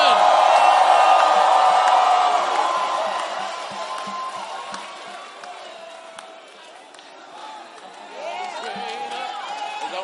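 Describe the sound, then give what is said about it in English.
A church audience erupts in loud shouting and cheering in praise to God, a dense wash of many voices that swells at first, eases off, then rises again toward the end, with scattered whoops. “If you know you serve a great God, give the Lord a mighty shout.”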